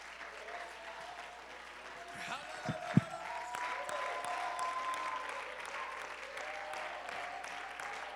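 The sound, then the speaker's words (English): An audience claps steadily in praise to God, a dense wash of applause with scattered cheers and voices mixed in, swelling slightly midway and staying loud to the end. “If you believe that, would you clap your hands for a moment longer and give God praise?”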